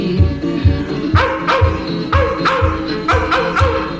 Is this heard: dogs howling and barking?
yes